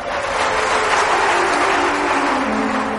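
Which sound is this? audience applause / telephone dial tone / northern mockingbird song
audience applause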